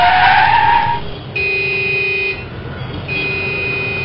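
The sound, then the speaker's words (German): A loud, shrill screech of car tires skidding hard for about a second on a main street as a car brakes for a woman crossing, cut off abruptly, followed by two long, steady blasts of a car horn with a brief gap between them. “Die entspannte Autofahrt eines Geschäftsreisenden wurde je unterbrochen.”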